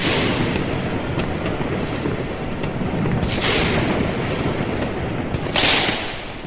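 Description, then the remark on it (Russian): Heavy, rumbling explosions of 400-millimetre munitions dropped by Ukrainian fighter jets roll through continuous roaring noise, with two sharper blasts standing out near the middle and toward the end. Loud, with no voices. “Украинские истребители пролетели совсем рядом. 400-миллиметровые боезаряды упали на землю.”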